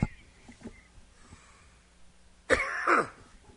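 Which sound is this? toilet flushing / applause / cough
cough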